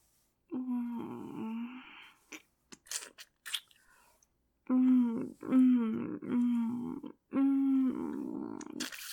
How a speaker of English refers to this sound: I mean, I want to hear those moans and whimpers of yours. How am I supposed to know if I'm doing it right if you don't make any sounds for me?